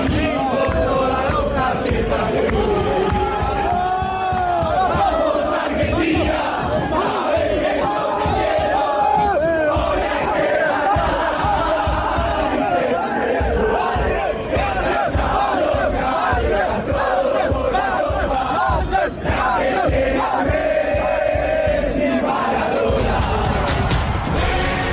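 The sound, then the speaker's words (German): A large crowd of celebrating football fans sings a stadium chant together, a song that ends with 'jetzt holen wir den dritten Stern', loud and sustained, with rhythmic claps or stomps pulsing underneath the massed voices throughout. “Das ist doch der Song, der am Ende damit aufhört und jetzt holen wir den dritten Stern oder so, ne?”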